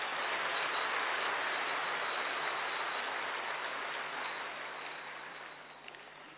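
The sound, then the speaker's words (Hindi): An audience claps together in a dense, steady wash of applause that holds for several seconds, then slowly thins and fades toward the end, with no voices over it. “वाह, ताली बजाओ अच्छी तरह से।”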